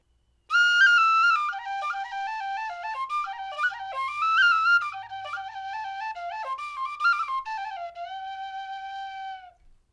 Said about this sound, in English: This is a Clark Tin Whistle in C.